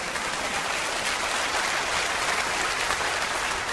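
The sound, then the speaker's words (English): A church audience breaks into steady applause in response to the preacher's call during a sermon, a dense, sustained wash of many hands clapping at once that holds evenly for a few seconds, with no voices standing out. “Does this get even an amen? Or a clap or something?”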